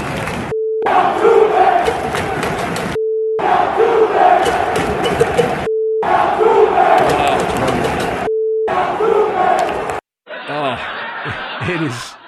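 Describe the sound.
A loud crowd of fans at Yankee Stadium chants in rhythmic bursts. Steady, mid-pitched beep tones separate the bursts. A few seconds of fainter talking follow at the end.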